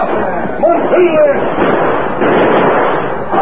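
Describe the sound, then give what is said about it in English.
A noisy, chaotic exchange of gunfire between a sheriff's posse and outlaws at a farm with a blazing barn, with a steady crackling wash of shots and a few whistling ricochets, while men shout beneath it throughout. “The sheriff's posse had seen the blaze and galloped to the farm where they were met by gunfire.”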